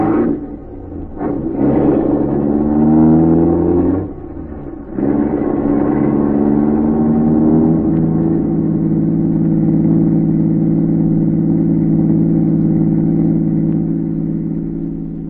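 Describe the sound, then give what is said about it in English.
A car engine starts and revs up loudly, dips briefly, then roars again and settles into a steady, rumbling drone as the vehicle pulls away, fading slightly at the end. “K-9 watched the car as it pulled away.”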